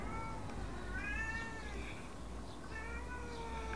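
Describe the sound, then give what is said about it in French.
A cat, Jeannette, meows several times in a row, drawn-out tonal cries rising and falling, steady in volume over a low background hum, with no talking. “avec une paire d'animaux, plutôt qu'une paire de mioches, même si Jeannette miaule beaucoup.”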